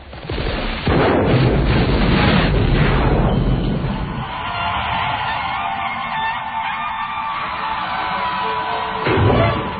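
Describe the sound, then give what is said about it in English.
A big explosion, filmed for a movie scene, erupts with a heavy, booming roar that swells for a few seconds, then settles into a long rumbling, crackling wash of debris and low noise, with a final thump near the end; a telegraph pole set into a hole in the street is blown up, knocking a car into the air. “This is a big, huge explosion that we shot.”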